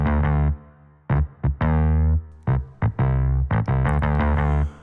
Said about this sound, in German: Starkes, tragendes Bassriff mit Verzerrung und sogar mit ein bisschen Hall.